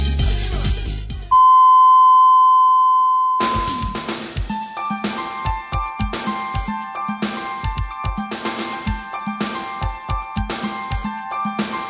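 An FM Naha radio time signal marking five o'clock: a single long, steady high-pitched beep holds for about two seconds after a brief burst of sound, then upbeat music with punchy rhythmic drum hits starts. No one speaks.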